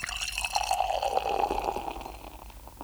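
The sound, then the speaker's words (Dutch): Bock beer being poured from a freshly opened bottle into a glass, a steady gurgling stream with a rising tone as it fills, followed by a soft fizzing hiss of creamy coloured foam settling. No one speaks. “Hoe het bokje in het glas schuimt. En dus cremig kleurig schuim.”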